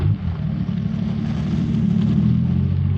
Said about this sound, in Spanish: Bien, pon en marcha el auto.